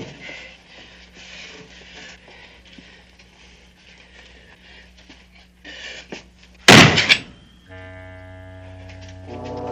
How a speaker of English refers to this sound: Look! Maybe we can open the door with this. Stand back. Stand back.